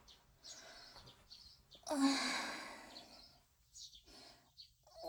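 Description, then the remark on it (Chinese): Birds chirp in short, repeated bursts throughout, steady and continuous, while a loud, breathy sigh swells up in the middle and fades away. “好烦啊，一直啾啾啾啾啾啾啾的，这些鸟到底要叫到什么时候？”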